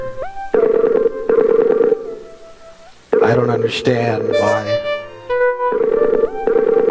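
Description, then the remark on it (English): A Skype call's ringback tone pulses in steady, evenly spaced electronic bursts, pausing while a person speaks briefly, then resuming its repeating ring pattern at a moderate, unchanging pitch, with no answer. “You know, it's ringing, as you can hear.”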